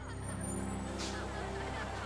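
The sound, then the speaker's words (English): A school bus idles with a steady, low engine rumble, and a short burst of air-brake hiss rises in the middle before the motor drones on. “I can't drive this bus.”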